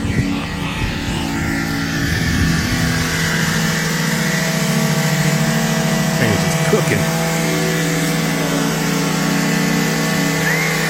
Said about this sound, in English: He was sitting in the handicapped parking spot with his foot just mashed on the gas, just chilling there, like doing something else, not even realizing his foot was on the gas, bro. He's going to blow his car up, bro.